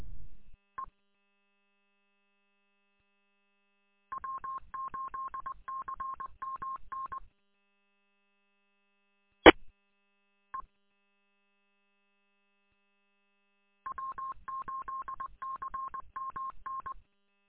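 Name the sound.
telephone touch-tone dialing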